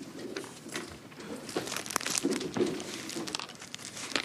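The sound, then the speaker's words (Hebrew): Paper sheets rustle and crinkle in a steady shuffle for a few seconds, with soft irregular crackles as they are handled and picked up by people taking sheets of paper and pencils, no voices over it. “אז תיקחו לכם דפים ועפרונות ואני אקרא את קטע המקור.”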